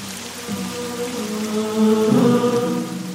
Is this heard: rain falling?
yes